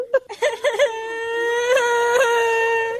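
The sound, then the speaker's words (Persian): A child cries out in short, choked sobs that stretch into one long, sustained wail, loud, with a couple of sharper rises near the end. “بچه چرا گریاد میکنی؟”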